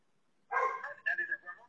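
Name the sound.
dog barking next door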